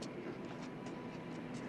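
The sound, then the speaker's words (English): A train approaches along a railway track, a steady, dense roar with faint rhythmic clicks above it, sustained throughout with no voices. “Ariel makes her way onto the track and stares mesmerized by the glowing light at the front of the”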